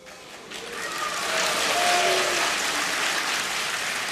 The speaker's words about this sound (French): c'est une jeune indienne, on l'entend, Sasheen Littlefeather, qui s'avance sur scène et explique que Brando ne peut pas recevoir son prix en raison de la manière dont sont traités les Amérindiens par l'industrie du cinéma. Applaudissements et huées.